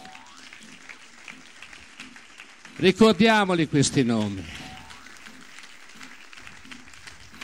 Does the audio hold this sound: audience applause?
yes